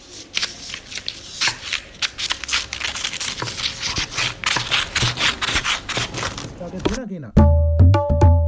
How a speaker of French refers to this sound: Je découpe des feuilles.